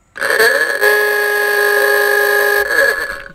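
A single loud ahooga horn blast: a brassy, buzzing tone that swoops up at the start, holds steady for a couple of seconds, then bends downward as it fades out.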